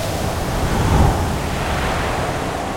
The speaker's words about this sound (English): for the sea grows more and more tempestuous against them.